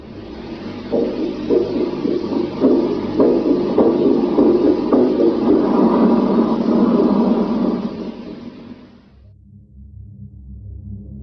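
Faint, irregular thumps like a weak, failing heartbeat, in an audio clip recorded on a flight, pulse beneath heavy hiss and low rumble, then the noisy signal cuts off abruptly, leaving only a quiet low hum.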